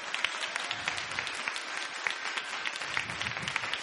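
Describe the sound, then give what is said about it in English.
A crowd claps vigorously at a preacher's urging, many hands producing a dense, continuous patter of sharp slaps that holds steady throughout, with no talking over it. “Oh, y'all got to clap harder than that.”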